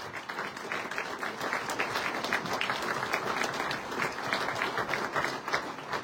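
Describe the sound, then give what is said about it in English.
A crowd applauds steadily for about six seconds, a dense wash of many hands clapping at an even, sustained loudness with no voices standing out, giving a round of applause for the speaker's husband. “Can you guys please give him a round of applause?”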